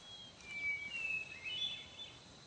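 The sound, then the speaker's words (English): A hermit thrush sings faintly, a few thin, high, flute-like phrases drifting over a steady background hiss, with no voices. “You hear that song? It's a hermit thrush.”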